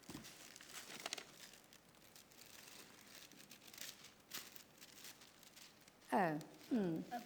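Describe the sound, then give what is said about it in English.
Soft, continuous rustling and crinkling of tissue paper as a present containing a book is unwrapped, with a few sharper crackles, followed by a brief burst of voices near the end. “It's wrapped in tissue paper. That's good. Do you want to open it for me then?”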